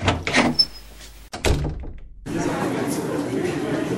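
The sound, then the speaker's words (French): A second door thuds and swings open, followed by a sudden rise of busy noise and murmuring chatter from beyond it. “Ah, voilà la deuxième porte.”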